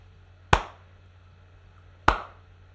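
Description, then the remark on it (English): Two sharp, crisp hand claps spaced about a second and a half apart, a deliberately slow clap over a low steady background hum, with no voices. “Can I have a clap for that? Can I have a really slow one?”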